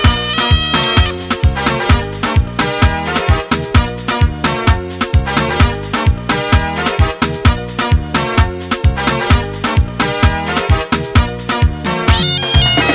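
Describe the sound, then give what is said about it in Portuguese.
Cat meows recur throughout, mixed into a loud, busy music track with a steady driving beat, the meowing cries blending with the instruments rather than standing alone. “Eu tenho um saco de gato, será que ele vai comprar?”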